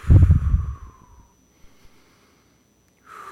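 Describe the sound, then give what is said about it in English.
A loud sniffing inhale through the nose as a breathing exercise, then near silence, then a soft breathy exhale through the mouth starting at the end, with no talking. “Smell the flowers with your nose. Blow out the candles with your mouth.”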